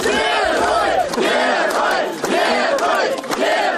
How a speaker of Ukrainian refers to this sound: Такими вигуками на мінському автовокзалі зустрічали екс-кандидата на виборах президента Білорусі 2010 року 59-річного Миколу Статкевича.